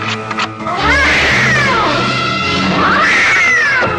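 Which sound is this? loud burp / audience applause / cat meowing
cat meowing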